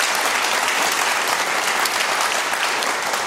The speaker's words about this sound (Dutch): Dames en heren, even een applaus voor